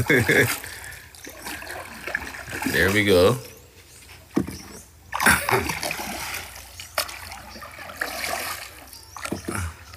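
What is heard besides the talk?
oars splashing water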